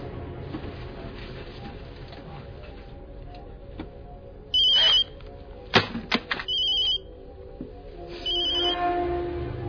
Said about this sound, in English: The phone.